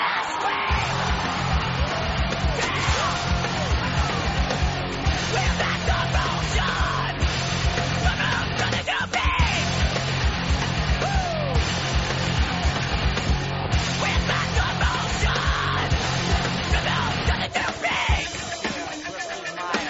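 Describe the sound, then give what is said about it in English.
A big Texas high school football crowd at an East Texas versus West Texas game yells and roars continuously for the whole stretch, a dense, loud wall of shouting voices with scattered whoops and bellows rising above the din. “No doubt, this crowd is jacked.”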